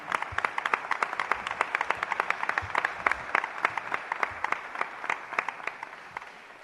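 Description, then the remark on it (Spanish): Audience applause at a Radio Marca Málaga award presentation, for an honoree as he receives his award: a steady wash of many hands clapping with sharp individual claps popping out, sustained at moderate level before tapering off slightly at the end. No talking over it. “el escudo de oro de Radio Marca Málaga, el tiro de plata a …, que tiene aquí a nietos, hijos, familia, así que un fuerte aplauso para él, que lo va a recibir ahora.”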